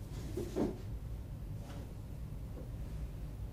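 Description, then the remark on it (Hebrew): A door opens or shuts with a short, muffled knock and creak early on, followed by faint room noise and a soft thud later, over a low background hum. “טוב, דלת.”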